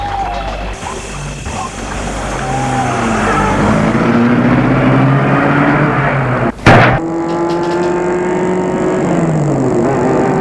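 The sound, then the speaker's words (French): A car engine starts up and pulls away at night, its pitch climbing as it accelerates through the gears, with a sharp knock partway through before the engine settles into a steady hum. No voices. “Et il met la voiture en route.”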